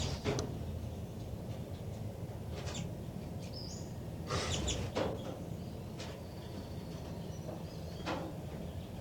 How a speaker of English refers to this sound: Trying to get vocalizations of the baby birds.